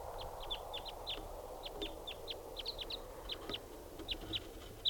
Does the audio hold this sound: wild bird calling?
yes